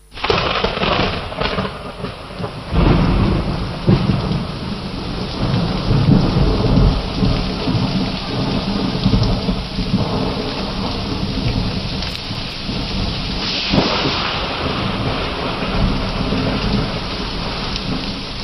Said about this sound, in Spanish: En esta semana, una borrasca ha descargado una enorme cantidad de agua sobre las Islas Canarias. Las lluvias torrenciales han ocasionado muchas pérdidas materiales, especialmente en las islas occidentales.